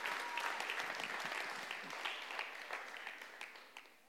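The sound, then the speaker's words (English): A church audience claps steadily during a sermon in a dense, continuous patter of many hands, holding a fairly even loudness for several seconds with a few sharper claps standing out near the end. “Oh, you got to clap harder than that.”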